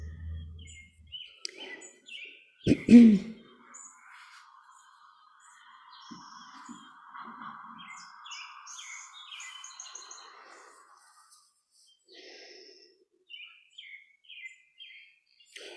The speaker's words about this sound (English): so thank you for sharing these birds as we talk.